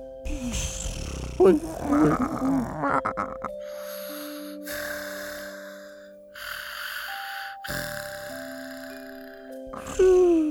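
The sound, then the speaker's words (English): Several snores of the story characters Mr. Pig, Mrs. Sheep and Little Sparrow overlap on a farm, mixing rough, snorting breaths with wheezy, whistling tones at different pitches, rising and falling in uneven waves for about ten seconds with no speech. “Everyone's snoring mixed together to make a beautiful snoring lullaby.”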